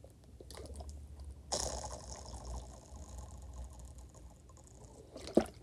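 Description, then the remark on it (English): Someone drinks water with no talking: soft handling clicks, then a burst of sloshing liquid and low swallowing sounds that continue quietly, ending in a sharp click. “Drink more water. That is a thing that is happening right now as we speak.”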